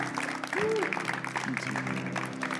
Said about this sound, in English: Come on. Can you give a good clap to the Lord this morning?